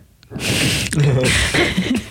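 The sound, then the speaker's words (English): Loud, airy breaths right up against the microphone, two long rushes of air in a row, one inhale-like and one exhale-like, with no talking. “I hate that you can hear me breathing so hard right now, and I don't know why I'm breathing so hard.”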